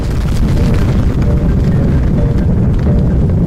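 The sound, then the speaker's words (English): A massive explosion over the Siberian sky at Tunguska, 100 times more powerful than Hiroshima, rolls out as a loud, deep rumble that stays heavy and sustained for several seconds, thick with low-end roar and no voices present. “The explosion was 100 times more powerful than Hiroshima.”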